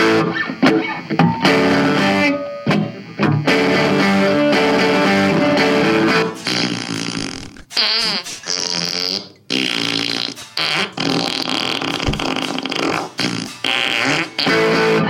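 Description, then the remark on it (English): Guitar run through an effects pedal that turns each note into a sampled fart sound, played in a loud, continuous string of pitched, buzzing farts with brief pauses and no talking. “But now they've come out with a pedal for your guitar where you can play farts on your guitar.”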